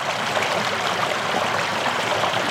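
creek water flowing

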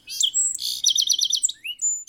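birds chirping

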